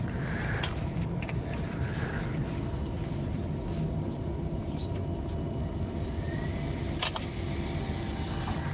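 A printer, its display saying it is preparing to print Kindle Paperwhite, runs with a steady, low mechanical drone that holds throughout, broken only by a couple of faint clicks. No one speaks.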